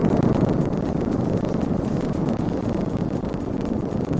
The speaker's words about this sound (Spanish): Esa es la explosión con la que comenzó ayer a las 3:15 de la tarde, hora canaria.